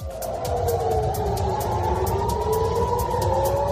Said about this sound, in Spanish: Después de un fin de semana, como te cuento, en el que no han dejado de sonar sirenas, alarmas antiaéreas, que son el reflejo de lo que está pasando en estos momentos en una nueva escalada de violencia entre ambas partes.